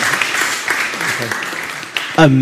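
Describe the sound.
A room full of people applauding steadily for a speaker at the end of a talk, a dense wash of many hands clapping at once, with some voices mixed in and a person starting to speak clearly near the end.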